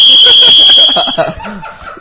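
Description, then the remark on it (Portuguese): A loud, shrill dog whistle tone holds steady for just under a second, with people laughing and talking beneath it; the voices carry on after the whistle cuts off. “Apito de cachorro. Aumenta o volume aí, tem gente que eu dei o apito.”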